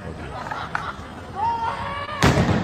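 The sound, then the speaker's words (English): A celebratory firework set off in the street by fans celebrating their team whistles briefly, then a single loud, sharp bang goes off, over a murmur of people chatting outdoors in the street. “And if you're going to set off celebratory fireworks, try not to blow your finger off.”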